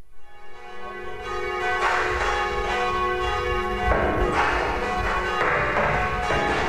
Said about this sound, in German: Pünktlich um 21 Uhr läuten die Glocken der Bielefelder Nikolaikirche den Beginn der Stadtsinfonie ein.